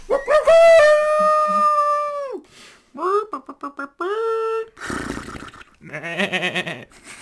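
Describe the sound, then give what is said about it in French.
A person imitates a dog's howl: one long, sustained, rising-then-steady wail, followed by a string of shorter yelping and bleating animal noises in the same voice. “pourrait faire des bruits d'animaux aussi dans le générique. Miaou. Mmh. Un chien, un cochon.”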